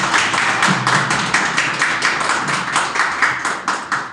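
Steady applause from a crowd, many hands clapping in a dense, crisp patter that stays loud and even throughout, with no voices on top.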